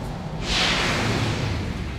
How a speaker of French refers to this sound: Allez, écoute. Ouverture de porte.